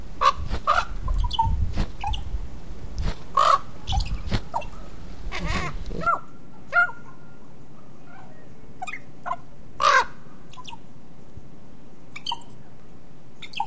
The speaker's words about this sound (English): In addition to their raucous call, ravens have a wide range of vocalizations, some quite musical. They gurgle, chirp, warble, and imitate sounds.